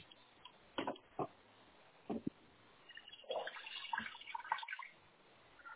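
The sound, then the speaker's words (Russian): A water tap in an apartment whose water supply keeps cutting out sputters in irregular bursts, a few short gushes early on, then a longer stretch of uneven splashing and spitting, with no one speaking. “Здесь не совсем немного. Она то появляется, то пропадает.”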